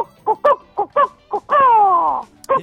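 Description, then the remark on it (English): A person imitates a chicken on a voicemail message: a string of short, choppy clucks, then one long, drawn-out squawk that slides downward, and a final cluck. No other talking. “Have you ever even seen a chicken?”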